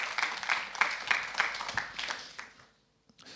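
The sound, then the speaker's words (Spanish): An audience claps for God together in a burst of applause, dense overlapping hand claps at moderate loudness that fade out after a couple of seconds, followed by near silence and a faint final clap. “¿Cuántos le dan palmas al que vive?”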